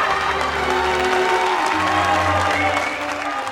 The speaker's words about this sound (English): Then the group carrying Quasimodo arrives. Everyone is still laughing and cheering.